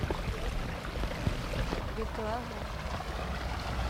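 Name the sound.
stream water flowing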